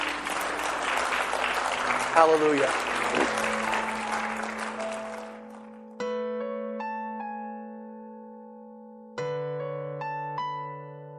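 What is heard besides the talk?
audience clapping hands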